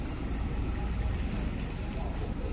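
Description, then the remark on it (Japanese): A steady, low engine rumble from other go-karts running nearby fills the whole stretch, a continuous drone with no breaks or distinct passes, moderately loud and even throughout. “なんかよそのカートの音の方がしてるぐらいかな、他の車のエンジン音が聞こえます。”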